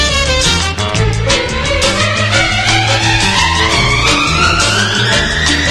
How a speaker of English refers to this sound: Tearing down the road in a pickup truck, Whit Begley out taking the lead, followed by a tractor and a half-lane mule, dust flying as it picked up speed.